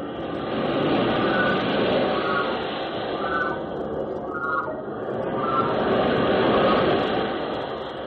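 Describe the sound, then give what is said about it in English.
A steady, hushed wash of sea waves murmuring and echoing through a sea cave called the Murmurarium, swelling gently and easing off in slow surges, with no voices over it. “Well, to begin with, this cave is called the Murmurarium because it captures and holds even the slightest murmur of the waves so perfectly.”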